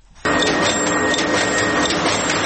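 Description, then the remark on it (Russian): A loud industrial machine starts abruptly and runs steadily, a dense mechanical clatter with faint rhythmic pulses, as a printing-house machine rhythmically cuts a huge paper roll into sheets of different sizes. “Шумная машина ритмично нарезает огромный рулон на листы разных размеров.”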